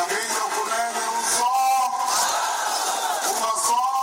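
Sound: rally crowd cheering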